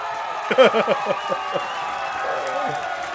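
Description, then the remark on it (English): An audience claps and cheers in a steady wash of applause, with a few excited shouts and whoops rising above it early on before the clapping carries on evenly. “We're gonna give you a cheer right here.”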